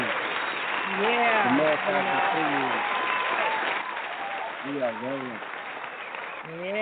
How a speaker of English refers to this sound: Let's give a hand to those that have supported you in your journey up until the present right now. Okay. So let's give an applause. I mean, let's give an applause to the ones that supported you all this time up to the present time.